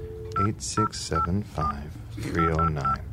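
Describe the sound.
Seven or so touch-tone beeps as a phone number found in a pop-up book is punched in, short bright tones in an uneven rhythm, clear, with some voices murmuring underneath.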